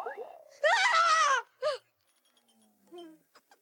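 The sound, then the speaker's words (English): A woman lets out a loud, sustained scream of fright at a pair of eyes staring at her from a milk bottle, lasting nearly a second, followed by a short sharp cry and a few fainter gasping vocal sounds. “Well, you would have screamed too if you saw a couple of eyes staring at you from a milk bottle.”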